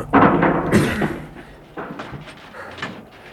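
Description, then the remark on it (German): The door of a small hut built in front of a ruin is kicked in with a heavy thud and splintering crash, followed by a few softer knocks and rattles as it settles. “Aber wir treten die Tür ein.”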